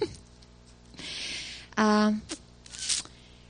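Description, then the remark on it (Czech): A sheet of paper slides and rustles in two short bursts of dry scraping, with a brief hummed voice sound in between. “Musím posunout papír.”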